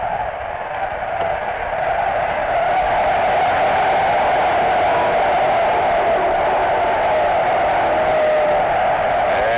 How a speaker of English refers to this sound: And the crowd is booing for something, but I'm not sure what.